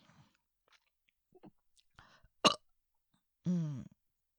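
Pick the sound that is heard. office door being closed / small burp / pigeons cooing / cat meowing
small burp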